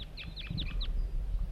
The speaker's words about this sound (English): 4-3 tooping. A pair of wild birds coming in. 3 wild birds. All appear to be males. Sitting in the dead pine that's just beyond the net site.